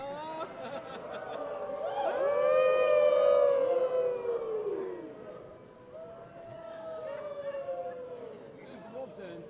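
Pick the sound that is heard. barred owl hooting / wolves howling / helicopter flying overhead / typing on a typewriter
wolves howling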